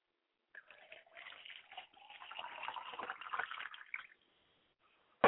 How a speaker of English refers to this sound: I like to pour a glass of water for my father's spirit that he might quench his thirst and he might find his way back to this circle of family.